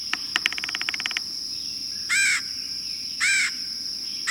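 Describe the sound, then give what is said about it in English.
A red-headed woodpecker gives two harsh, rasping calls about a second apart, preceded by a quick burst of rapid tapping clicks, all over a steady high-pitched insect drone. “There are ways we can help the red-headed woodpecker.”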